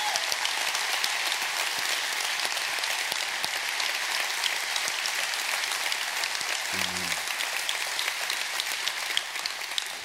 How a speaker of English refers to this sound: And if you are grateful to God for your pastor, would you just join me in giving God a hand clap of praise? Amen.